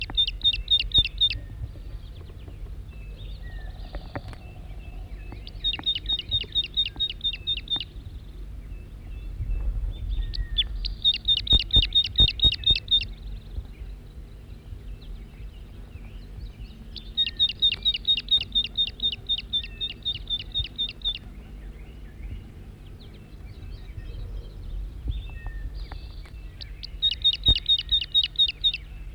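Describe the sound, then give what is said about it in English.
A wild male bird calls at close range, giving bright, high-pitched bursts of rapid repeated notes every few seconds over a steady low rumble, with no one talking. “Wild bird, stop. It's recording the wild male again from close range.”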